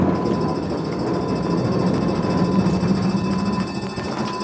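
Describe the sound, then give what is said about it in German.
A 40-ton truck under emergency braking, stopping in just under 60 metres: a loud, steady mechanical rumble with a low droning hum and a faint high whine, easing slightly near the end. No voices. “wie schwer sich so ein 40-Tonnen-Fahrzeug bei einer Gefahrenbremse tut.”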